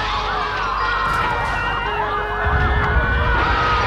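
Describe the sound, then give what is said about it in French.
Several police and fire vehicle sirens wail at once as they arrive at a fire, their overlapping tones rising and falling loudly over a steady low rumble of traffic and engines. “La police, les pompiers arrivent.”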